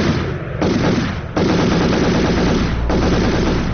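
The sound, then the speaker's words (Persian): Dense, continuous bursts of machine gun fire in Kabul, fired by young people celebrating a cricket team's victory, crackle loudly and almost without pause, overlapping shots forming a rapid rattling roar with brief dips between volleys; no voices are heard. “اما ایده از جوانان احساساتی ای پیروزی را با فیرهای مسلسل و پای هم تجلیل کردند که ای اقدام آرامش مردم در شهر کابل و سایر شهرها برهم زد.”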